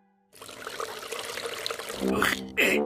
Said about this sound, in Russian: Надо было сперва отнести корыто на балкон, а уж потом наливать воду.